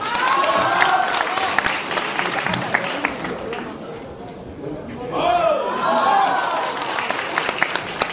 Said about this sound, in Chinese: 好，感谢大伙的掌声鼓励啊！